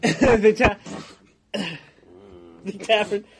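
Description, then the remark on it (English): A person, voicing a tavern keeper, coughs and clears their throat: a cluster of sharp rough bursts followed by a couple of gruff, voiced throat-clearing sounds after a short pause. “the tavern keeper coughs and points to a sign that says "No necromancy."”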